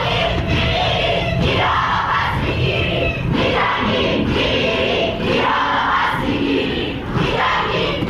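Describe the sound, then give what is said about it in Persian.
A large crowd of university students in Iran, demonstrating in memory of the victims of the Ukrainian airliner shot down by a Revolutionary Guards missile, chants in unison, voices rising and falling in steady rhythmic bursts, loud and continuous throughout with shouts carrying over the mass of voices. “بنابر گزارش‌ها دانشجویان دانشگاه‌های تهران، بهشتی، خواجه نصیر، سوره، شریف و دانشگاه چمران احواز برای یادبود قربانیان شلیک موشک سپاه پاسداران به هواپیمای اوکراینی تظاهرات کردند.”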